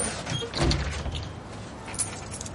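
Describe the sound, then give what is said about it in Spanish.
A phone booth door swings open and shuts with a short rattling clunk as someone enters the booth, followed by faint shuffling and another soft knock against a steady low background hum. “Entra en la cabina telefónica.”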